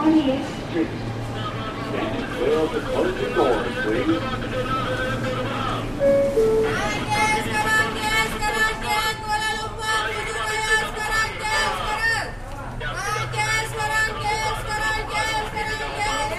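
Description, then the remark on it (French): Inside a Whitehall Street bound R local New York subway train after Herald Square, next stop 28th Street: a steady rumbling drone with a dense layer of tonal, whining harmonics that swells in partway through, and faint chatter in the background. “This is a Whitehall Street bound R local train.”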